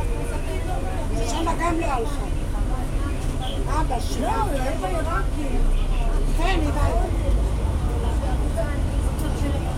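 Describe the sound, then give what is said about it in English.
Steady low engine rumble fills the inside of a moving bus as it makes a big turn, loud and constant throughout, with indistinct voices murmuring over it now and then. “At least we didn't have to wait long for the bus.”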